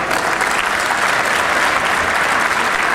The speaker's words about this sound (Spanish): Oiga, cuando hablamos, igual como ustedes aplauden, cuando hablamos de la tierra también nos quiso aplaudir.